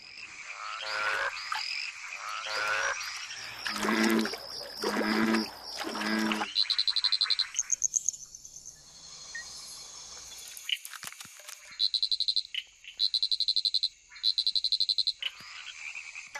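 frogs croaking

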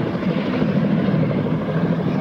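helicopter arriving overhead

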